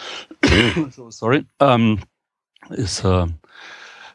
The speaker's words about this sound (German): Pollen-indizierter Husten, also keine Sorgen machen.